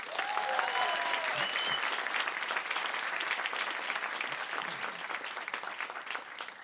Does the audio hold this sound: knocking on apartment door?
no